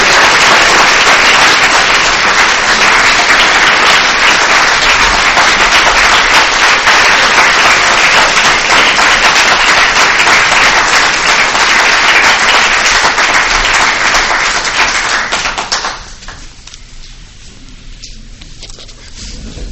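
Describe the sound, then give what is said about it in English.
A crowd applauds loudly and steadily with dense, continuous clapping for about fifteen seconds, then it quickly dies away to a faint, scattered patter. “By that applause, I can tell that there's not likely to be a person in this room who would take issue with anything that Scott had to say.”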